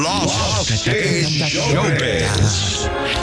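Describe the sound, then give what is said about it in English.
A dramatic announcer-style voice sings out the short jingle phrase "Lost in Showbiz", drenched in added echo and reverb, with a dense musical backing that stays loud and steady throughout. “this voice used to go, Lost in Showbiz. Jack has put some echo on that”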